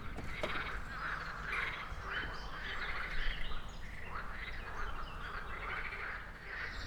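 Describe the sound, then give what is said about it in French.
A dense chorus of frogs croaks continuously, many overlapping calls pulsing in steady waves at moderate loudness over a low outdoor rumble, heard from a terrace sheltered from the wind, with no one speaking. “Et on écoute les grenouilles. Par moments, ça fait un petit vacarme.”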